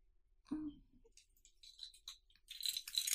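A soft thump, then keys jangling and clinking in short metallic bursts that grow busier and louder toward the end as someone searches for their keys on arriving home.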